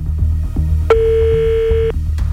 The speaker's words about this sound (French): Je compose le numéro. J'ai peur. Oula. Ça sonne fort. Oui. Une sonnerie.